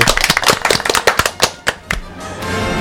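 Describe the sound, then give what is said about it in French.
A few people on the Radio Scoopy News show applaud themselves in a quick, uneven burst of sharp slaps for about two seconds, then the claps thin out and give way to a steady, hissy wash of sound. “On s'applaudit ?”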